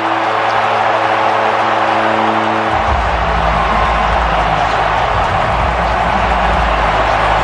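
A huge stadium crowd roars its approval in a loud, unbroken wash of noise as the San Francisco 49ers win their game to go back to the championship game, with a deep rumbling swell joining in after a few seconds and carrying on to the end.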